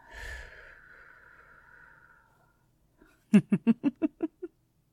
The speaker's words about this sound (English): You didn't think demons did breathing exercises. We still need air.